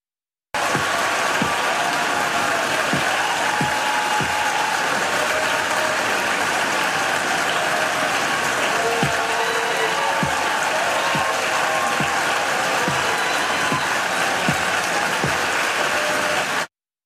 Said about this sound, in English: Now that video, of course, shows two things, two very different things. It shows people clapping for Ketanji Brown Jackson, who had just been voted to be confirmed to the Supreme Court, the first black woman ever in history to do that.